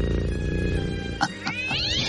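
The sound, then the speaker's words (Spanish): A cat named Manchis, from Guadalajara, Mexico, meows loudly and insistently, its drawn-out cries rising and bending in pitch, with a couple of short sharp bursts near the end. There is no talking. “Tranquilidad, gatito.”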